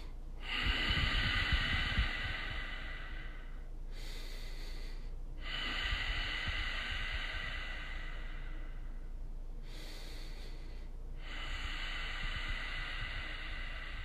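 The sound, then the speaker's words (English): Slow, deep pranayama breathing in and out through the nose, with a hissing, ocean-like rush. Three long breaths, each lasting several seconds, are separated by brief pauses, and no one speaks. “And as you come to stillness, you're going to begin to breathe in through your nose and out through your nose. And we call this pranayama breathing.”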